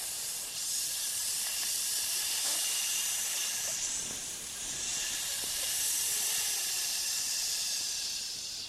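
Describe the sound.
A long, steady hiss of breath, like a snake, made as the healing sound of the lungs to release tension, sustained for several seconds at an even, fairly strong level with slight swells, with no talking.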